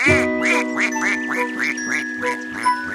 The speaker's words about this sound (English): Mother Duck said quack, quack, quack, quack, and all of the five little ducks came back.